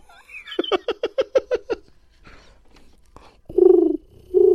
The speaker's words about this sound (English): Oh, it's a pigeon, yeah. It's a bird flying away.